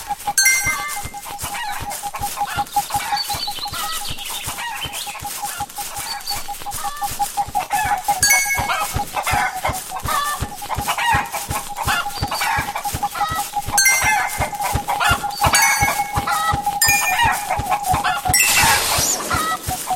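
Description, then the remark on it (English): Chickens cluck continuously in quick, dense bursts that get faster, with a steady mid-pitched tone running underneath and a brighter squawk near the end. Fairly loud, and no one speaks. “Yep, chicken's getting faster.”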